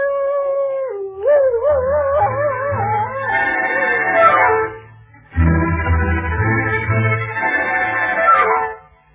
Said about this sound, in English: My people say that when a dog howls, he is mourning because there is death in the air.